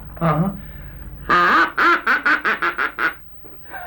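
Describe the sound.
A duck call blown, with one short quack, a long drawn-out one, then a quick run of about seven loud, raspy quacks tapering off.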